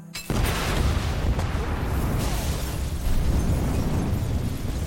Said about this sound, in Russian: Ну и удар по ключу, проскочила искра, и все взорвалось.